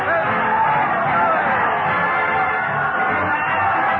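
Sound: crowd cheering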